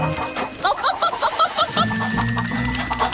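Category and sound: bird, chicks clucking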